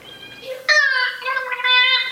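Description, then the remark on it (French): A dolphin named Peter, being taught human language in a morning lesson, makes high, squeaky, voice-like sounds mimicking human words, two or three sustained nasal phrases in quick succession, fairly loud with no one else speaking. “La réalité ayant inspiré la fiction, Lily espère sincèrement, tout comme le professeur Sevilla de Merle, inculquer aux dauphins le langage humain.”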